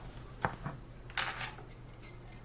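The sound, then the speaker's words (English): A set of keys clinks and jangles with a few soft metallic taps as they are handed over, then a brief shimmering jingle, fairly quiet, with no voices. “Could I have my keys, please?”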